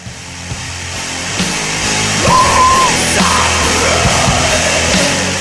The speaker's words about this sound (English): There's a brilliant bit in this first song where there's an inhale scream. And let me play it to you, and I'll show what I mean.